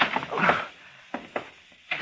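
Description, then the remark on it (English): A door opens with a burst of rustling and scraping as someone squeezes out of a room full of dismountable, prefabricated broom closets, followed by a few short wooden thunks and knocks spaced out over a couple of seconds. “I'll try to squeeze through here. Oh, I can just make the door and get out.”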